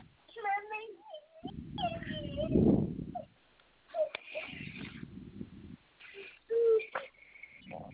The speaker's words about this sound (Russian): Все, не плачь, успокойся.